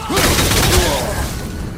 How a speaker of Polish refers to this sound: Kurde, wybuchła tam ta. O matko, znowu.